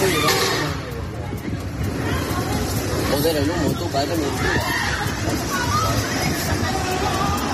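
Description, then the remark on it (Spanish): Panicked customers scream and shout in anguish during a fire in an Italian restaurant, over a steady, roaring wash of noise, their strained voices rising and overlapping in a continuous commotion heard from outside the restaurant. “Así se escuchaban desde fuera del local los gritos de angustia de los clientes.”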